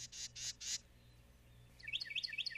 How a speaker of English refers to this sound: Sound familiar? That's the one. It's a Carolina wren.